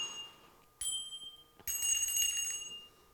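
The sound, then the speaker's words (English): A woman rings small handbells in two bright bursts, high metallic tones that shimmer and sustain, the second burst louder and fuller, with no voices over them. “she has some little tiny bells. She's going to ring them for us.”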